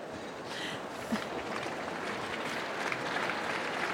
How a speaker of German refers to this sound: Uiuiui, tosender Applaus.